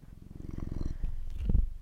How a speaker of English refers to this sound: Are you purring? I've never fucking heard you do that before. Yeah. You're purring.